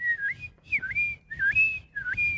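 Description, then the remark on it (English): A person whistles a seagull-like call: four quick, sliding phrases that dip and rise in pitch, repeated in a steady rhythm, clear with faint low background rumble. “That's like a seagull.”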